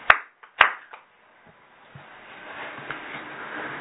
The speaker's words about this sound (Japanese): まあ24歳を迎えられましたので盛大な拍手でお祝いをしております。